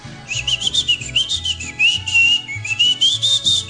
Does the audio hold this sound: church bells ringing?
no